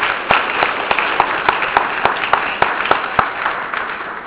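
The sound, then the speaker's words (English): An audience applauds three panelists steadily, with many overlapping claps and a few sharper ones standing out in an irregular patter, moderately loud and with no voices. “I think all three of our panelists deserve a big round of applause.”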